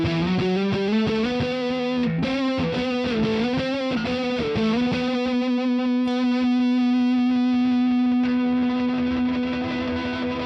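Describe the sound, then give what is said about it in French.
A heavily distorted electric guitar, played through the neck pickup at low volume, plays octave notes that climb upward in quick steps to the very high frets, then settles on one long, buzzing sustained note. Steady in volume, with no voices. “Et du coup, je fais ces octaves jusqu'à terminer dans les cases très très aiguës.”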